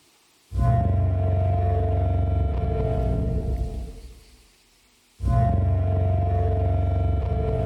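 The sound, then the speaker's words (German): A computer simulation of the range of tones a Parasaurolophus dinosaur's crest may have produced: a loud, deep, droning horn-like tone that holds for several seconds and fades, then sounds again louder after a brief pause, resonant like a trombone or foghorn. “Also so irgendwas zwischen einer Posaune und einem Nebelhorn. Parasaurolophus kommt tatsächlich auch in einer der Jurassic Park-Fortsetzungen vor.”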